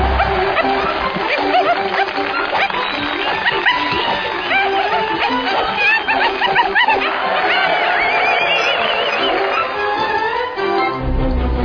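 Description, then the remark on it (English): A dog, the act Yippee the Backflipping Dog, barks and yips repeatedly over a loud, steady crowd murmur of chatter at a USO show, the whole scene sounding dense and somewhat muffled for the full length. “Well, Sheila, while you're getting set up over there, let's bring out our first act, Yippee the Backflipping Dog!”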